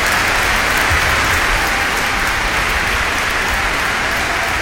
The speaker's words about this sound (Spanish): Concentrado en la misma, no se percató cuando concluyó, por lo que una de las solistas, tocándole el brazo, le hizo voltear y percatarse que el público aplaudía frenético y los pañuelos se agitaban en el aire.